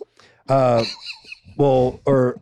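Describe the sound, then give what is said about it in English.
A baby girl squawking after a burp lets out three loud, harsh squawks in quick succession, the first long and strained, the next two shorter, each a raspy, high-pitched, bird-like cry with no talking. “I would say that the squawk has actually kind of taken the place of the burp now.”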